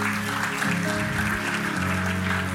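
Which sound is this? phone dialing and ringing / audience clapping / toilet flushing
audience clapping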